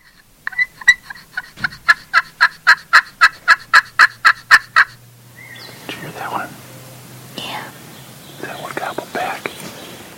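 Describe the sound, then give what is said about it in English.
A turkey call device, used by hunters to outsmart turkeys, sounds a loud, rapid gobbling rattle of about a dozen sharp pulses lasting several seconds, then soft whispered talk and faint rustling follow. “How do you outsmart a turkey? With a turkey call. Here is what it sounds like.”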